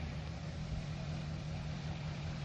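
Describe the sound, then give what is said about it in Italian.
A car engine runs steadily at low revs while the car reverses to park, a constant deep rumble and hum, with no voices over it for the whole stretch. “Fai un pochino di marcia indietro. Sì, ancora un pochettino.”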